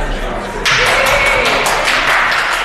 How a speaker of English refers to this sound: A little bit of applause there at the end from some of your supporters on the SNP benches.